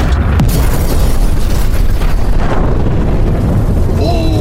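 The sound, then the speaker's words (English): A massive, roaring hydrogen bomb (H-bomb) explosion rumbles continuously, loud and dense with deep low-end boom and crackling noise, sustained for several seconds without letting up. “Beloved leader Kim Jong-un, if the H letter make a ha sound, then what sound does the H-bomb make? This.”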